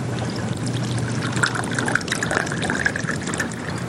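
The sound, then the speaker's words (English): A bartender pours bourbon whiskey steadily from a bottle into a highball glass at a bar counter, a continuous gurgling trickle lasting a few seconds, its pitch rising slightly as the glass fills. No voices. “He fills the glass.”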